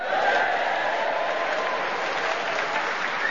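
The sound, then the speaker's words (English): A large Hampshire audience at the refurbished King's Theatre in Southsea, Portsmouth, claps steadily at the start of a Just a Minute show: dense, continuous applause with some cheering mixed in, loud and sustained throughout. “And as you've just realised, we have an enthusiastic Hampshire audience in front of us to cheer us on our way and encourage us as we start the show with Tony Hawks.”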